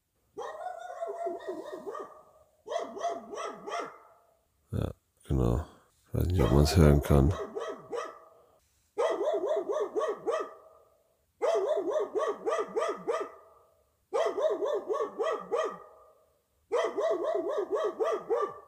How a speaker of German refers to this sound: Hast du auch die Hunde gehört? Ja, ich habe auch die Hunde gehört. Okay, dann hast du also auch so gut geschlafen wie ich. Boah, ey, es ist 4 Uhr und seit über einer Stunde bellen die Hunde da draußen.